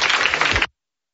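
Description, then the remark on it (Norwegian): A short burst of audience applause welcoming two presenters up on stage, a dense wash of many hands clapping at steady loudness for under a second before it cuts off abruptly. No one speaks. “Vi klapper de inn.”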